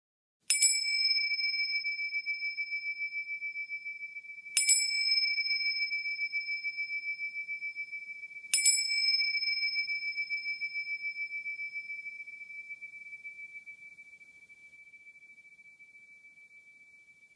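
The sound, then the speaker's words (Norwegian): Three clear, ringing bell strikes mark the start of an exercise in noticing thoughts and how the body feels. They are spaced about four seconds apart, each with a bright high tone that sustains and slowly fades, the last one lingering longest. No voices. “Når klokkerne lyder, begynder øvelsen.”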